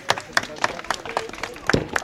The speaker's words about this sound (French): On l'applaudit.